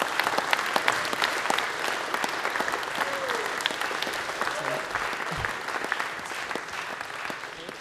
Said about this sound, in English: but the most important bit of DevConf is the people who come, you lot, so please clap yourselves, not us.